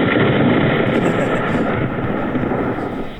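A rain cloud sound effect: a loud, dense wash of steady rushing noise with a rumbling low end, holding constant for a few seconds before easing slightly at the end.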